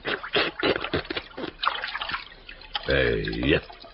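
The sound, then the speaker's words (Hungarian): Something dips into water, giving short dripping, trickling splashes, then a brief gurgling swell near the end, with voices talking over parts of it. “Kossolj csak bele a vízbe!”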